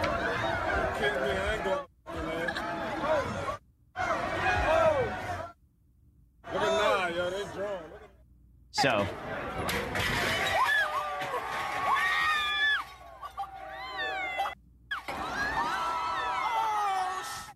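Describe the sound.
A rowdy street crowd cheers, whoops and screams in loud, dense bursts in a montage of people destroying convenience stores, smashing Macy's windows and collapsing the Ritz Hotel awning, broken by several abrupt cuts and short silences, with shouting voices rising over the din.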